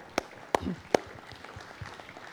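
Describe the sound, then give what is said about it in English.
An audience applauds itself: begins as just a few sharp, isolated claps, three loud ones in quick succession, then trails off into a faint murmur of scattered clapping. “Give yourselves a round of applause because you have been a part of every single one of these things.”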